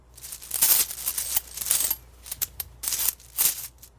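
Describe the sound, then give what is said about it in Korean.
Silver coins clink and jingle in a series of bright, ringing bursts, several clusters of chiming taps as twenty to thirty dollars' worth of silver pieces are taken from a pouch, counted out and handled, with no voices. “그는 주머니에서 자기 몫으로 20달러에서 30달러 정도의 은화를 꺼내고 또 같은 분량의 돈을 인전 조의 몫으로 꺼낸 뒤 조에게 주머니를 건네주었다.”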